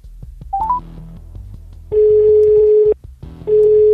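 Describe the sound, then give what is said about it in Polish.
A few quick dialing beeps, then a telephone ringback tone: a loud, steady mid-pitched tone lasting about a second, a short pause, then the tone starting again. “Dzwonimy!”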